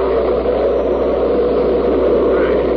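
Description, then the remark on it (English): A steady, unbroken roar of storm wind, a dense rushing hiss that holds at the same loud level throughout, with no voices or other sounds over it. “You have storms like this often in this part of the country?”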